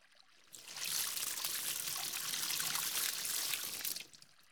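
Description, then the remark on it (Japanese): A steady gush of warm water pours for about three seconds to rinse soap off a person after washing at a bath, a bright, hissing splash that starts abruptly and cuts off cleanly, with no voices over it. “じゃあ流しちゃいますからね。うん、行きますよ。暖かいですね。”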